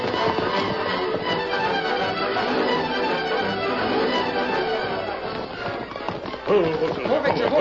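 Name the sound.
horses galloping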